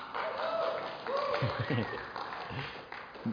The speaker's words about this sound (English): I notice not everyone's clapping, so anyway.